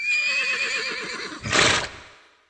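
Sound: horse neighing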